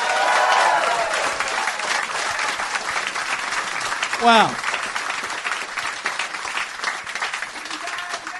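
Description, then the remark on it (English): Steady, dense applause from a large audience, clapping to vote on whether a film is a Christmas film, fills the whole stretch, with a single voice briefly exclaiming over the clapping midway through. “A round of applause if you think Die Hard is in fact a Christmas film.”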